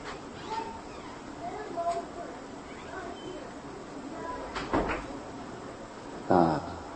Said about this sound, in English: Can you close the door?